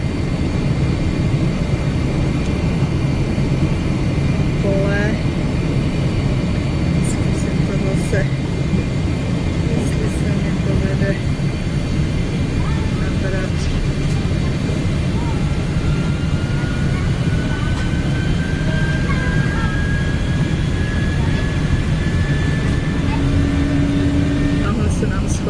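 Steady, loud drone of jet engines heard from inside an airplane cabin during descent and braking, with passengers buckled in, a constant low roar with a faint higher whine running through it for the whole stretch.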